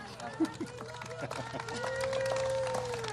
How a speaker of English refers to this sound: okay to clap.